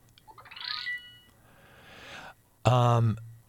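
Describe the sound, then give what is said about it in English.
A phone notification chirps with a quick rising electronic sweep, followed by a softer hiss and then a brief, louder buzzy tone, amid busy work messages going back and forth. Background voices or noise are faint. “you'll hear my phone chirping right now because there's much bustle going on at work.”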